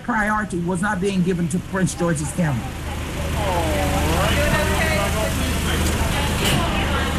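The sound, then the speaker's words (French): Cars idle and roll slowly through a drive-through lane at a free pandemic testing site in the parking lot of a Baptist church in Hyattsville, Prince George's County, a steady low engine rumble building after a person speaks briefly at the start, with faint voices in the background. “On y arrive en voiture, comme sur ce parking d'une église baptiste d'Hyattville.”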